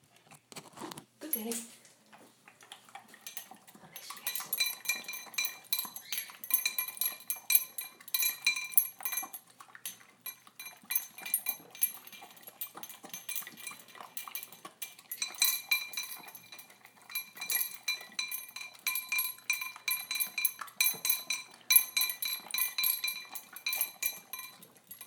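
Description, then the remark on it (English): A female dog eats quickly from a bowl: a steady, rapid stream of crunching and clinking against the dish, continuing almost without pause throughout, with only a few brief gaps. “A fairly fast eater, as you can hear.”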